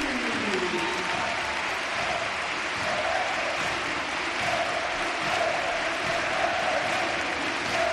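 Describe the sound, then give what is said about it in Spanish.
A stadium crowd gives a loud, sustained standing ovation as footballer Youssef En-Nesyri is substituted off, dense applause and cheering roaring steadily throughout with a faint swell of voices rising within the noise. “La ovación se va a marchar en Nesiri y la gente en pie.”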